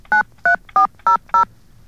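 telephone keypad dialing tones

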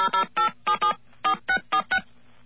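telephone touch-tone dialing

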